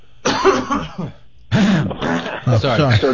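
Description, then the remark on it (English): A person clears their throat of a hiccup in a short burst, then again in a longer, rougher series of guttural, voiced rasps. The sounds are fairly loud and come with no speech. “This is, I've got just a hiccup in my throat right now.”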